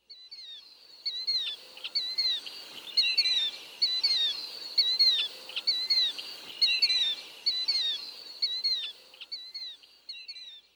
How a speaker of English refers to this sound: Another bird that says its name is the killdeer.